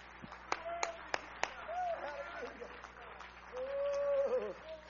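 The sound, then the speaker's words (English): During a church service, a handful of sharp, separate hand claps of praise to the Lord ring out in the first second and a half, followed by raised voices and sustained vocal tones over a steady murmur. “Give the Lord a hand clap of praise here in this house.”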